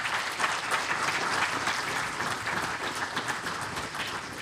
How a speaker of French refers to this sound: Et ben, je merci beaucoup, les gars, hein, tout simplement. Je crois qu'ils méritent les applaudissements.